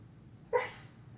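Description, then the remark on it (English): A sleeping, dreaming dog lets out one short, muffled woof, a half-voiced bark, over a low steady background hum, with no talking. “And now he's barking and he's dreaming. And listen to our dog, y'all.”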